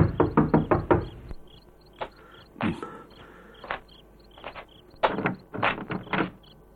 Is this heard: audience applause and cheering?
no